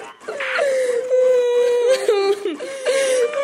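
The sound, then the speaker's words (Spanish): A loud whimpering and sobbing cry, drawn out in long wavering wails with pitch that bends and breaks, briefly catching between moans. “Llegado el llanto, se tapará con decoro el rostro usando ambas manos con la palma hacia adentro.”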